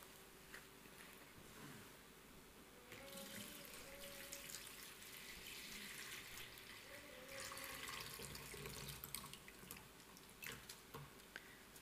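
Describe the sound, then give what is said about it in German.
Dirty water pours out of a bottle in a steady, splashing stream for several seconds as the bottle is emptied, swelling slightly louder midway with some gurgling, then trailing off into a few drips. No talking. “Also ich habe hier eine Flasche mit dreckigem Schmutzwasser und klar ist, also wenn wir hier diese Flasche wieder gebrauchen wollen, dann muss das Wasser raus.”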